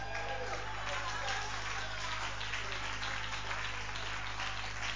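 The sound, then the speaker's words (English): An audience claps steadily for about five seconds in praise to God, a dense wash of applause with a few raised voices cheering in the mix, over a faint low hum. “All the clapping, all the rejoicing, all the praises go to God.”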